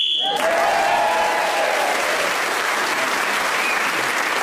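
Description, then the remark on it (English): A short, shrill whistle blast sounds for under half a second on a panel game as Terry Wogan is speaking, then gives way to loud, steady applause from an audience that carries on to the end. “So Terry Wogan was then speaking as the whistle went, gained that extra point.”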